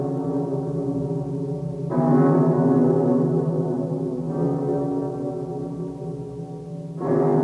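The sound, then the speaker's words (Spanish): A deep bell tolls in slow, steady strokes, about every two and a half seconds. Each loud stroke blooms into a long, humming resonance that overlaps the next, with no voices present. “La campana es un grito de metal, inventado porque para el hombre resultaba una necesidad vital transmitir a mayor velocidad de la que podían proporcionarle sus piernas y su voz la noticia del peligro y la señal de alarma.”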